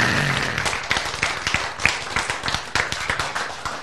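A crowd claps together in a steady burst of applause, dense, with sharper individual claps standing out now and then over nearly four seconds.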